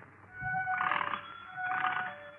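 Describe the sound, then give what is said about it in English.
A doorbell at number 14 Pembroke Street in Glasgow, Scotland, in 1857, rung impatiently, two quick insistent bursts of harsh, buzzing ringing over a steady metallic hum, with no voices. “That's the way the doorbell sounded at number 14 Pembroke Street in Glasgow, Scotland.”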